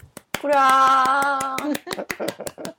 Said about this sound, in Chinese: 鼓掌！